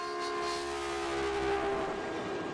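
A Caltrain commuter train rumbles past just north of San Jose, California, steady and loud, shaking the street, with a sustained horn-like tone over the broad rattling roar of the rail cars.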